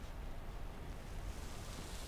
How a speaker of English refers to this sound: Sound of sea makes the sea feel close. I turn towards the sound.